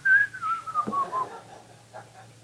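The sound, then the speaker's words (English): A single whistle from someone in a crowd, sliding slowly downward in pitch for about a second, over a low, steady hum. “Look, some of you are about ready to whistle.”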